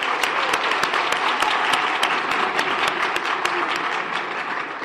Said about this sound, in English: This group, you are the backbone of this community. You hold this community up with your fierce dedication, and for that, let's all give each other a round of applause.